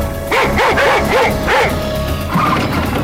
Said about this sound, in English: But then I heard the sound that makes any escaped prisoner in Louisiana's blood run cold. Sound of the dog! I knew they was taking out the dog!